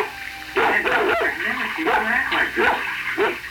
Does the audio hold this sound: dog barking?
yes